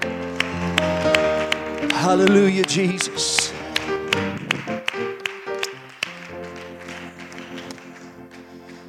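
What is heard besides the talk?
audience applauding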